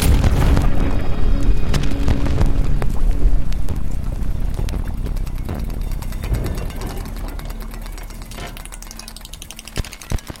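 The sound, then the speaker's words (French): A deep, grainy bass rumble churns continuously, textured with crackling granular bursts and scattered clicks, evoking cosmic explosions; it slowly thins toward the end with a few sharp pops. “laissez-vous porter par les graves granuleux que Christine Groult associe aux explosions cosmiques”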